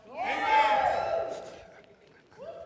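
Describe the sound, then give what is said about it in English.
A church audience, asked by the preacher to shout, erupts in a loud, sustained shout that rises, peaks, then tapers off, with a fresh voice cutting in near the end. “Can somebody shout?”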